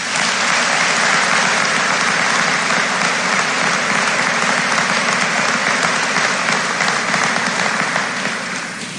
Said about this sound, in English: Please join me in giving these Fort Recovery Alumni Association scholarship winners a round of applause.